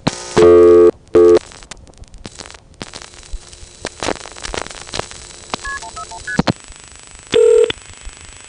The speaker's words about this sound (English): As another example, let's try to call Pittsburgh, area code 412. I'll dial 1 and then 41, but that's as far as I'll get before I should get the recording, because of course there is no such code as 141.